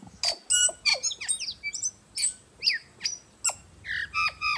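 tui calling

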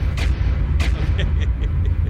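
explosion sound effect

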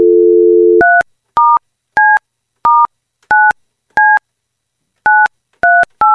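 telephone number being dialed

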